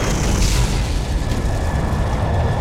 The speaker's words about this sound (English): followed by secondary explosions as the weapons within the armored vehicles of the Soviet assault force themselves exploded